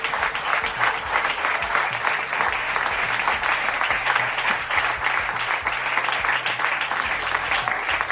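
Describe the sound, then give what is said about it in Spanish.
Sustained audience applause for the campaign heads at a political campaign event, a dense, steady wash of many hands clapping at an even loudness for the whole stretch, with no voices standing out above it. “Permitidme que pida un fuerte aplauso también a los filos que estamos aquí”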